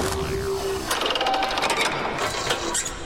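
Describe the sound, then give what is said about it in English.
Heavy chamber doors grind shut as they are closed and secured, then a locking mechanism engages with a rapid run of ratcheting metallic clicks and clatter, moderately loud, over a low mechanical hum and a brief whirring tone. “Close the doors, Commander, and secure them.”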